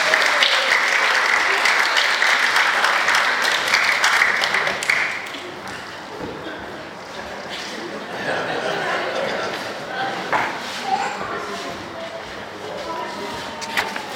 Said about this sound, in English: Do you want to clap our helpers again?